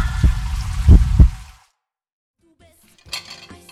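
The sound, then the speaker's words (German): Water runs from a tap in a loud, steady rush with a few dull thumps, cuts off abruptly, and after a short silence dishes clink and clatter. “Oh, Mutti, warum musst du denn das Wasser genau dann anstellen, wenn ich duschen gehe? Es war eiskalt unter der Dusche.”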